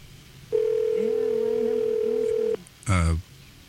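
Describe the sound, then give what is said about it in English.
A telephone rings on an outgoing call: one steady, unbroken two-second ringback tone with faint voices murmuring beneath it, followed by a short spoken sound once the tone stops. “Phone ringing.”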